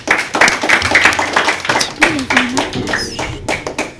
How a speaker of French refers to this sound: On peut les applaudir.